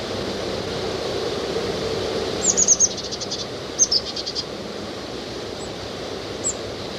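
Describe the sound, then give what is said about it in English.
A tufted titmouse gives quick bursts of high, thin notes, four or five at a time, then a couple of fainter single calls, over a steady rushing background noise. “That's the titmouse.”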